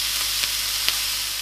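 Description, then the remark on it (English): Bacon fries steadily in a heated frying pan until crispy, a dense crackling hiss with a couple of sharper pops cutting through. No one speaks. “Start frying that until it gets nice and crispy.”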